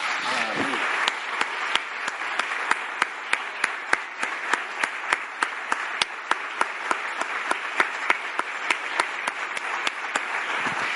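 A church audience applauds the Lord steadily for about eleven seconds, a dense wash of clapping with individual sharp claps popping out in a rough rhythm, even in loudness throughout.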